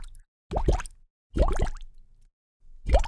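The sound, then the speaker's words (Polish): Three clear water-drop plops, each with a quick rising, bubbly tone, land about a second apart. They sound distinct, with silence between them and no talking. “Tak, oczywiście, chodzi o wodę.”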